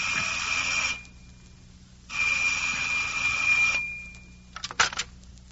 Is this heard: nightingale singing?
no